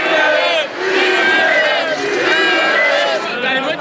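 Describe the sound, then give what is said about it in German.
A large crowd of Spain football fans chants in unison on the Plaza Colón at halftime after a goal by Fernando Torres, loud and sustained, with rising and falling sung phrases repeating in a steady rhythm over a roar of many voices outdoors. “Und nach dem Tor von Fernando Torres gab es zur Halbzeit nur eine Parole. Siege, Siege, weiter so.”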